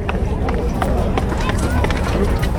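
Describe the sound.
Quick, uneven footfalls of two young women running up and down steps in sunny, tourist-filled Washington DC, a string of sharp thuds and scuffs heard over a steady murmur of background voices.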